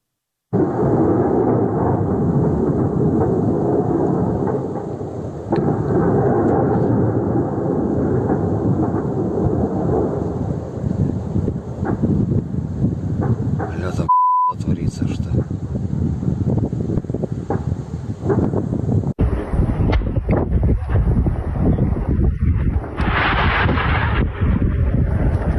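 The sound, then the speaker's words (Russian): An ammunition depot detonating in Berdyansk: explosions rumble almost continuously, deep rolling booms overlapping one another while wind buffets the microphone, with a brief cut midway and a harsher, hissing stretch near the end. “Появилось и видео вот таких вот взрывов.”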